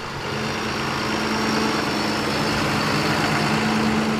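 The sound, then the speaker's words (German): A tractor engine drones steadily and fairly loudly throughout, a constant low rumble with a faint whine, as the tractor drives rounds on a field of the Köllitsch teaching and research farm in Saxony, Germany, near the Brandenburg border; no one speaks. “Auf dem Acker am Lehr- und Versuchsgut Köllitsch dreht ein Traktor seine Runden.”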